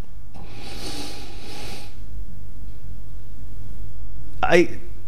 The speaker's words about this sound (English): Next, get your nose in there and give it a good sniff. So now we can go ahead and nose it.